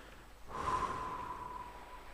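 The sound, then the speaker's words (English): A person takes a deep, airy breath in after a brief quiet moment, then a longer breath out that trails off slowly, with a soft steady tone humming underneath; no one speaks. “And taking a deep breath in and a longer breath out, you can breathe in and breathe out, imagine in that rectangle.”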